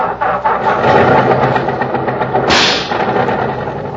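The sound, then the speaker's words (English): A car engine cranks and catches, then settles into a steady, rumbling idle with a rough, slightly knocking, pinging texture; a brief hissy burst rises midway through. No one speaks. “I gotta do something about that ping in the engine.”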